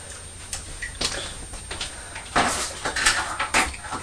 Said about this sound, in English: I can hear the tap dripping. Oh dear! Drip, drip, drip.